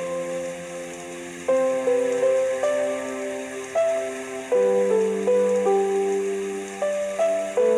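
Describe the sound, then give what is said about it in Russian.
Steady, hissing rain falls throughout, layered beneath a slow instrumental melody of sustained chords and stepping notes that come in clear, even phrases. “И под этот шум дождя я скучаю без тебя.”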